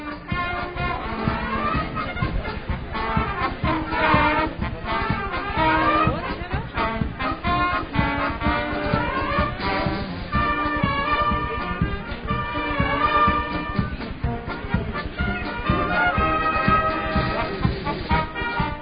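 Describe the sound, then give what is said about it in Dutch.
A band plays the collective performance at the traditional music contest in Sint Anna Park, Maldegem, continuously at a steady, fairly loud level, with dense layered sustained tones over a regular pulsing beat, the sound somewhat muffled and lacking high treble. “U kunt het misschien op de achtergrond al horen. Ik geloof dat juist het collectieve optreden aan de gang is.”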